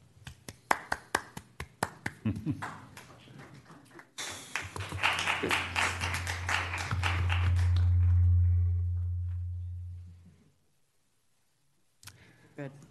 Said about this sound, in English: The system didn't like that clapping.